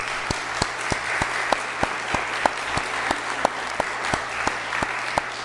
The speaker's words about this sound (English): So let's give our graduates a round of applause.